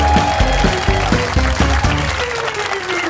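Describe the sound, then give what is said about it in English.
A large audience applauds loudly and steadily, welcoming a duo back to the stage to close the show with a song, the dense clapping blending with rhythmic, upbeat music that plays throughout. “Clap cheer for the fantastic … and ….”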